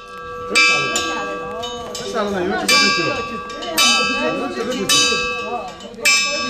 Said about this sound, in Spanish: Estas campanadas serán de alguno de los monasterios del Tíbet.